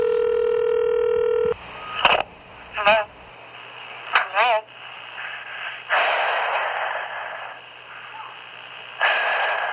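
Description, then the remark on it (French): A steady telephone dial tone hums for a moment, then a number is dialed, followed by short bursts of sound and heavy breathing over a muffled, noisy line. This is the Sacramento County rapist phoning his first victim on 2 January 1978. “Le 2 janvier 1978, le comble de l'horreur est atteint lorsqu'il téléphone à sa toute première victime.”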